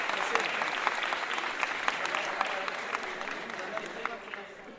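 Steady applause from an audience, many hands clapping in a dense, crackling wash that holds fairly even for several seconds before thinning slightly at the end.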